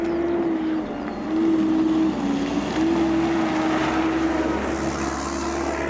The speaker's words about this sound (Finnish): Siinä meni jonkin sortin maatilatyökone ohi. Olemme täällä Viikin tutkimustilan peltojen kupeassa itse asiassa näiden julkislehmien edessä.